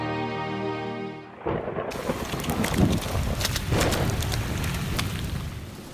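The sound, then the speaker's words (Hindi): A brief sustained musical tone gives way to a loud, steady downpour of rain, with rumbling thunder and sharp crackling bursts scattered through the storm. “माँ, माँ, दरवाजा जल्दी खोलो, हम बारिश में पूरी तरह भीग गए हैं, जल्दी आओ।”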